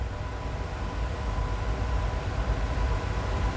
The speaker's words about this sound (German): Ja, das ist also ein Dauerton, also es ist der Dampf, der auf die Fackel draufgefahren wird, damit man eine relativ hundertprozentige Verbrennung erzielt, und das ist ein Rauschen.